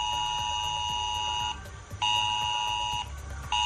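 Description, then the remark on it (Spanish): A harsh Civil Protection emergency alert tone on residents' mobile phones in six towns of Toledo province, Spain, including Santa Cruz de Retamar and Escalona, during flooding, blaring in repeated pulses, a steady high-pitched electronic tone that cuts out briefly about every one and a half seconds, then resumes loudly. “Es una nueva alerta de Protección Civil que en este caso han recibido en sus móviles los vecinos de Santa Cruz de Retamar, Escalona, El Casar de Escalona, Hormigos, Cazalegas y Cardiel de los Montes.”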